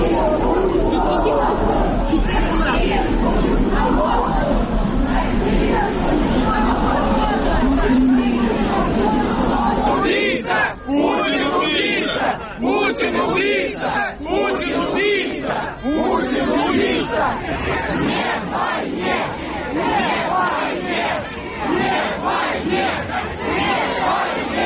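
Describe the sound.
A crowd of several thousand people walking from the church to the cemetery after Alexei Navalny's funeral service, a dense, loud roar of many voices talking and calling out, turning after about ten seconds into rhythmic, repeated chanted shouts.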